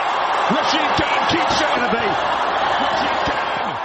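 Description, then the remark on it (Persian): A big stadium crowd at an Indian Premier League (IPL) cricket match roars and cheers without letup for the Gujarat Titans' last-ball win over Hyderabad, a loud, dense wall of voices with scattered shouts and rising whoops cutting through the din. “با این تشویق به دلیل پیروزی تیم گجرات تیتانز در ورزشگاه شاید بتوان آن را به عنوان هیجان انگیزترین بازی لیگ برتر هند IPL تا به این مرحله فصل شمارد.”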